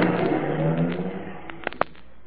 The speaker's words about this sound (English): Hop in the car. I'll drive.